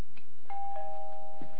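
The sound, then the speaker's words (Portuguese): A doorbell rings with a two-note chime, a higher tone followed by a lower one, both held and ringing out steadily. No one speaks. “Atende a porta?”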